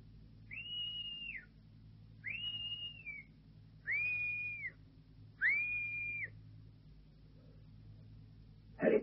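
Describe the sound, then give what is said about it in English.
A series of four clear, sustained whistle blasts at an even, steady pace, each held about a second, given as a signal, over a low rumbling background, with a brief knock at the end. “I'll give the same signal as last time. 2 whistles.”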